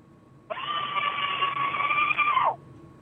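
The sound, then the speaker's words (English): A single sustained scream by a caller entering a radio screaming contest, lasting about two seconds, loud and steady with a slight drop in pitch at the end, sounding thin and compressed as if coming through a phone line. “Hey, y'all still doing the screaming contest?”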